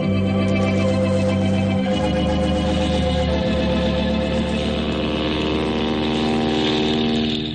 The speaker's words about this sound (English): Boy, those passenger planes are getting bigger every day.